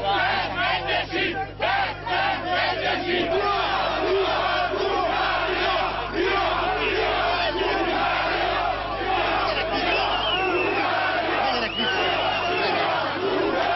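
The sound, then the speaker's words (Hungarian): A loud, dense crowd on a bridge shouts and yells continuously as riot police begin pushing them off the bridge at 10:30, voices overlapping in a chaotic roar with sharper cries rising out of it, with a steady low hum underneath. “Aztán 10:30-kor a rohamrendőrök megkezdték a tömeg kiszorítását a hídról.”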